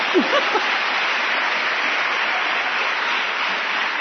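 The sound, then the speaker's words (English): An audience claps steadily for about four seconds, a dense, even wash of many hands with no pauses. A brief voice is heard at the very start. “This clapping is for Swami.”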